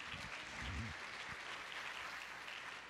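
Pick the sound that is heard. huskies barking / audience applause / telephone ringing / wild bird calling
audience applause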